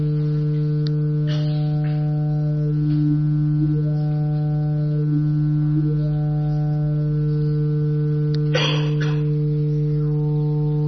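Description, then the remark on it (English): A very simple synthesized buzzer fed through just two resonances: a steady buzzing tone with a low fixed pitch, its vowel-like color shifting as the two resonances glide up and down independently, sounding mechanical and robotic, with brief clicks, and no speech. “We've got a very simple buzzer, and we're feeding that into just two resonances.”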